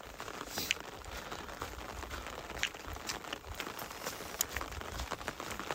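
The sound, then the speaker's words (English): Steady rain falls outdoors on a trail in cold, misty weather, a soft continuous hiss broken by occasional sharper drips and taps, with no voices. “The kind of weather you always hated today on trail. It's rainy and cold and misty.”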